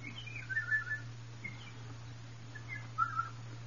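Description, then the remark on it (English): Two birds sing and answer each other with short whistled phrases: a night bird sings near the start and a morning bird answers a few seconds later, before it is yet morning, fairly soft over a steady low hum. “And first a night bird sang. And then a morning bird answered, although it was not yet morning.”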